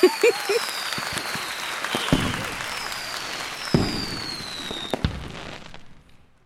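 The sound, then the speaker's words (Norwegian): Fireworks bursting in a rapid string of sharp pops and booms, with several louder blasts standing out over a continuous crackling hiss, fading out at the end. “Fyrverkeri. Jeg får tenke på fyrverkeri med en gang.”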